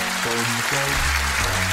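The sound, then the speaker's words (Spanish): An audience at a Hablando Huevada show breaks into steady, dense applause that fills the whole clip at an even, fairly loud level, with low sustained tones humming underneath the clapping. “Fuerte los aplausos.”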